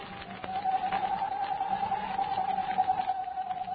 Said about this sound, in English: There's that owl again.